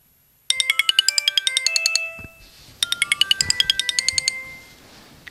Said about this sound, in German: Ja, ausgeschlafen würde ich mal sagen, so halb. Denn mich hat erstmal der Handywecker ganz unsanft aus meinen Träumen gerissen.